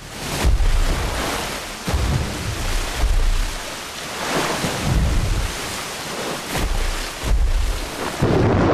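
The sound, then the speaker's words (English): A stormy sea in the dark roars continuously, with heavy waves surging and crashing every second or so, deep rumbling booms underneath and a steady wash of wind-driven spray. Loud, with no voices. “Outside in the dark, stormy water”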